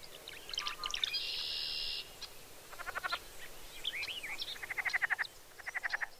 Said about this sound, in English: Like I said, the nursery pond is a busy place. There were leopard frogs in the shallows of the pond, plus lots of other birds nearby. The nesting tree swallow population at Beaver Nursery Pond is the largest I know about in northwest Arkansas.